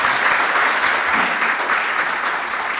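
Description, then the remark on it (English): A large audience applauds steadily, a dense, continuous wash of clapping that stays loud and even from start to finish with no voices over it, after David Batker's keynote address on ecosystem services, healthy communities and healthy economies. “Let's give David a great applause.”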